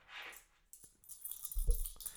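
A few metallic clinks as €5 in coins drop onto a table, ringing brightly, followed by a heavier rattling clatter and a dull thud, with no talking.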